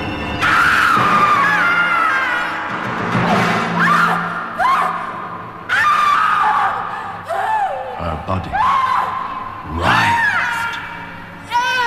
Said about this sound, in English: Seared and blasted by the dawn. Her last scream of torment would haunt him all the days of his life.